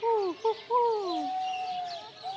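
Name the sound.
man imitating bird calls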